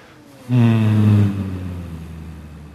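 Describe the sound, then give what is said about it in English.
After drawing in a long, deep breath, a group exhales together on a low, steady hum that starts suddenly, holds strong for under a second, then thins out and lingers more softly as the breath runs out. “And drawing in a long, deep breath and exhale with a hum.”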